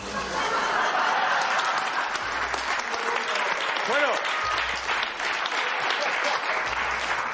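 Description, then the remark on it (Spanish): Sustained applause from an audience, a dense steady clatter of many hands clapping, with a few scattered voices and a brief rising whoop or cheer partway through. “Seguid aplaudiendo porque voy a decir que la historia verdadera es la de Carlos I y el retrete.”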